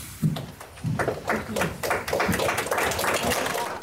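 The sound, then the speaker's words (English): An audience applauds, with a dense, steady stream of claps that builds quickly and stays loud throughout. Voices seem to call out underneath the clapping. “And all over the world, people joined in that applause.”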